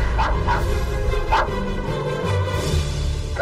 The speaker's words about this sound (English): It was Toto that made Dorothy laugh. He was a little black dog with long silky hair.